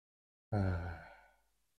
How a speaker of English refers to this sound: And then let's take one more deep breath through the nose. Breathing in for four, and then loudly out your mouth.